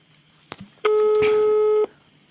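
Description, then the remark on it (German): A telephone ringback tone on an outgoing call: one steady, loud beep lasting about a second, preceded by a faint click on the line, with no voices. “Das nächste Freizeichen. Es klingelt.”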